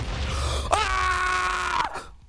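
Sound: loud scream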